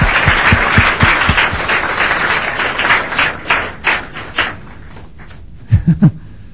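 A crowd applauds with dense, steady clapping that gradually thins out and fades after about four and a half seconds, followed by a few soft, low thumps.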